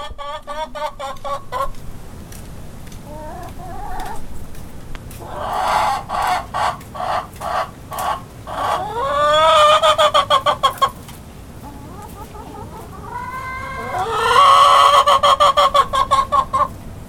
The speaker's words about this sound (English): Chickens under the bed.